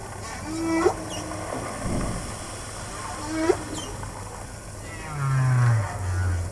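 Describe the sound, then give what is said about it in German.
A recording of underwater whale song played at an exhibition on how the sea sounds underwater: two short rising, whistle-like cries a few seconds apart, then a low, drawn-out moaning call toward the end, all over a steady hissing wash of sea noise. “Ja, das ist der Gesang der Wale.”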